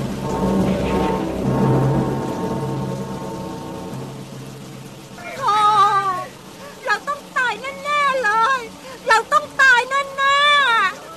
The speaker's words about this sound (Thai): เสียงลมพายุพัดกระหน่ำรุนแรงยิ่งขึ้นเรื่อยๆต้นไม้อาคารหินผาและพื้นโลกต่างถูกพายุโหมพัดกระหน่ำพังพินาศท่ามกลางเสียงวีดวิวของพายุรายนั้น